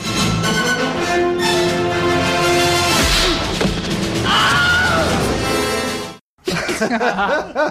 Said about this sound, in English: also gave us the Wilhelm scream. Here it is. Here it features in Batman Returns. This is this is Batman tossing a thug off the roof.